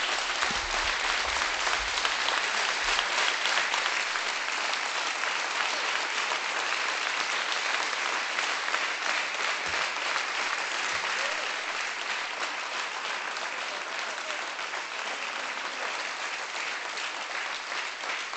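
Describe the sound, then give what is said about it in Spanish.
On election night at the Ciudadanos party headquarters, a crowd applauds candidate Edmundo Val steadily for the full length, a dense, loud, unbroken wash of clapping that never swells or fades, with no voices rising above it. “Aplausos para el candidato frustrado, que ha dicho que es una noche dura para el centro.”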